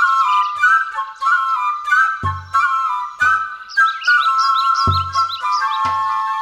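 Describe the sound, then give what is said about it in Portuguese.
A black hummingbird's thin, high-pitched song of quick repeated chirps and whistled notes, steady, with a few soft low thumps underneath and no talking. “Seu canto muito agudo não pode ser ouvido por outras espécies de aves.”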